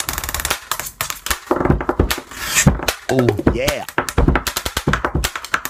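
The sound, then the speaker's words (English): A teenager taps out a fast, rhythmic beat with two pens, also hitting his cheek: dense sharp clicks and hollow knocks in a steady groove, fairly loud, with a brief voice speaking midway. “It's a teenager who makes beats with his pen, just tapping two pens.”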